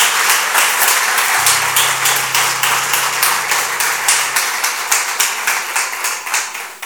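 A church audience claps steadily and loudly for several seconds as applause for the Lord, a dense patter of many hands, with a low sustained hum underneath partway through.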